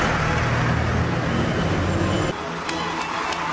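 Steady, dense street traffic rumble with low engine drone, a few sharp brief clicks or taps near the end, heard continuously at a roadside bus stop.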